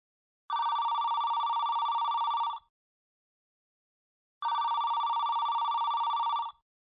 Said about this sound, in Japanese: その着信音が自分の携帯からだと気づくまでちょっと時間がかかったの。だって、普段はバイブ機能をオンにして、着信音は鳴らなくしていたから。それに、その聞こえた着信音に聞き覚えがなかったから。